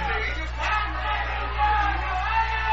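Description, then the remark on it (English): A stadium crowd at a football game roars in a steady, dense wash of voices, reacting with displeasure as a penalty flag flies after a possible punch by a Tigers player. The noise holds at a fairly even level throughout, with a low hum running underneath. “And the crowd is not happy as it appears that there may have been a punch thrown by one of the Tigers as the flag flies out.”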